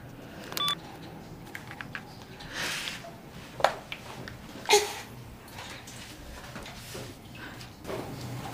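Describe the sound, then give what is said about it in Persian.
A few short, scattered electronic keypad tones from a mobile phone, taken out of a sock in a restroom toilet stall, being dialed. The tones sound isolated against a muffled, hissy background with soft rustling swells and no talking. “میره توی یکی از توالت ها گوشی موبایل از جورابش در میاره.”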